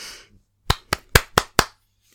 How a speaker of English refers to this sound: Okay, I'll do claps so when you know when to actually listen. Is that okay?